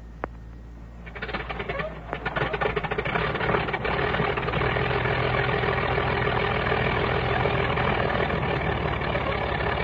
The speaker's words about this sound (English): The mechanic spins the prop. One of the engines warms up. Hear it squeak?